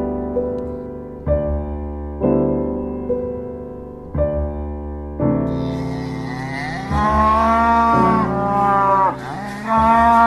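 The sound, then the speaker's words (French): A cow moos loudly, a string of long droning calls one after another, the later ones rising higher and wavering, with no talking. “On a parlé de la vache.”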